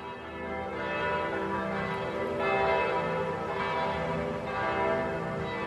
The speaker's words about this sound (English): What do those church bells look like to you? The church bells, they're all kind of a brassy, reddish orange. Although where they get a little bit quieter, there's some brown around the edges as the orange gets a little less saturated.